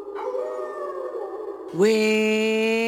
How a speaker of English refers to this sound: We're walking through the woods on Halloween night, and what do we hear? Werewolves howling all around us.